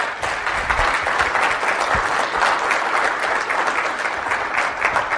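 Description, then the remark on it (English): A crowd claps steadily for the team behind Mixel after a presentation, a dense, even patter of many hands that stays loud throughout without rising or fading. “So can you please just give these guys a round of applause?”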